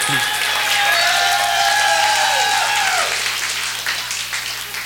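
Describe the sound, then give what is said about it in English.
Crowd applause at a live concert fills the space with steady, dense clapping and cheering from a large audience, sustained throughout, while a sustained tone glides downward and fades partway through. “He's got his new outfit on tonight, so you gotta applaud extra.”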